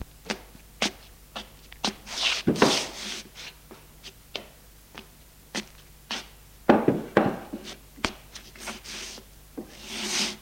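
A father fetches a chair from near the table and moves it to sit beside his son, with a series of sharp wooden knocks and clicks broken by a few longer scraping drags, all moderately loud with no voices.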